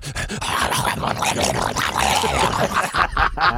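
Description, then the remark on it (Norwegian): A radio producer at Radio Rock imitates a Staffordshire Bull Terrier with a continuous stream of growls, yips and whimpering dog noises, loud, lasting a few seconds. “Vi har en produsent som er veldig god på etterliggende hund. En Staffordshire Bull Terrier.”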